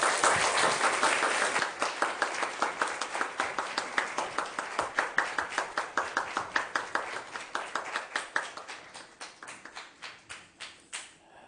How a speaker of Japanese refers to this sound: では拍手を持って先生をご覧ください。